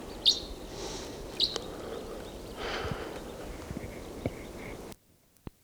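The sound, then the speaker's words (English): A male crossbill sings a few sharp, high chirps spaced apart, with fainter notes between them, over a steady hiss of background noise that cuts off abruptly near the end. “And right now I hear a male in song.”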